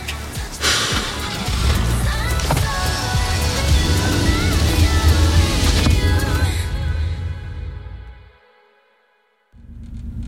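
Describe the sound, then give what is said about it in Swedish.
A car window is cranked down while driving on a country road, squeaky winding over a steady engine rumble and rushing air. The noise suddenly cuts to near silence, then the low rumble returns. “Och så när vi kom ut på landsvägen så vevade jag ner rutan och slängde iväg mobilen.”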